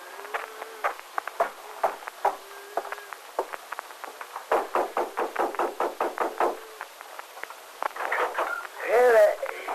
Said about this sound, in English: Hold on! Seem to be here in the yard, Victor. I'll have to knock on the door.